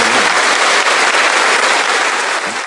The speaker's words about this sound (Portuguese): Então está aqui, vamos dar uma salva de palmas a esses nossos.